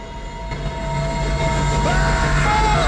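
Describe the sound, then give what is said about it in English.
A steam train rumbles closer along the tracks, a steady low roar building in loudness with sustained whistle-like tones and metallic squeals over it, no voices. “They look down the tracks and see a steam train heading their way.”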